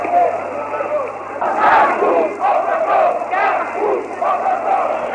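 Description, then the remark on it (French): A large crowd shouts and yells in loud, overlapping surges as paratroopers and CRS riot police charge into it amid thrown stones, the roar swelling and dipping in waves over several seconds with no single voice standing out. “Ça y est, les parachutistes et les CRS ont reçu l'ordre de charger, ils chargent. Ils chargent dans la foule.”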